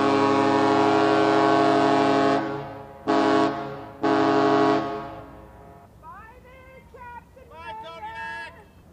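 The ferry Testamina's deep whistle blasts in a long-short-long pattern, spelling Morse code K, as it pushes off from its spot in Kodiak, loud and resonant, followed by a person beginning to speak.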